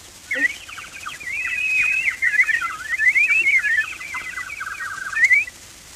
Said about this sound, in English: And the bird began to warble.